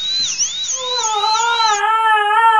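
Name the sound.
dental drill whirring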